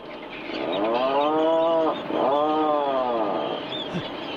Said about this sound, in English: You're listening to the surprising call of the Atlantic puffin. Yes, that's a bird.